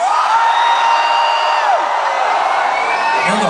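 A loud concert crowd roars continuously as the performer calls on the men in the audience to make noise, with high-pitched whoops and yells rising and sliding over a dense wash of cheering that stays steady throughout.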